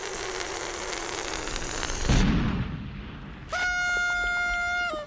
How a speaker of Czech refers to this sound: Jo, zakřičel Bulík a v tu ránu to bouchlo.